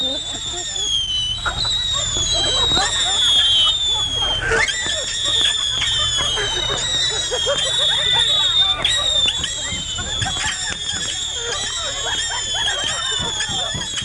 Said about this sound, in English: Flaming bottle rockets, whistling helicopters, Piccolo Pete's, and news transmitters blew out of the blaze.